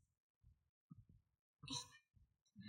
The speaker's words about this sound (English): Can you hear my heart beating?